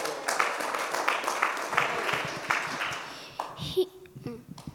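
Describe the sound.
A group claps for a child who has come up to speak, a dense, crackling burst of applause that fades out after a few seconds. A voice starts speaking as the clapping dies away.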